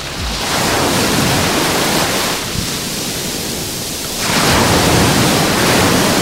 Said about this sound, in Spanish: Bueno, pues día soleado, el mar está más en calma que los últimos días aquí en la playa de la Rábita y el sonido que nos dejan las olas es este. Acércate bien a la radio para disfrutar de la playita en directo.